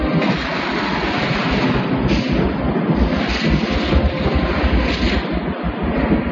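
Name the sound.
thunder rumbling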